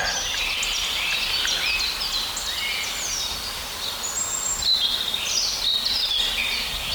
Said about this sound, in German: Schöne Rotkehlchen. Ach, ist doch herrlich.